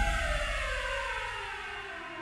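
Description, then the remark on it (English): Sirens of several arriving police cars wail steadily and loudly, their tone sliding slowly downward over a rumbling low background, with no voices present. “Down he sank into an endless black, occasionally broken by the momentary images of Jaime Weiss, soaked in Torrio's own black blood, being dragged away by his men, and the deafening arrival of police cars.”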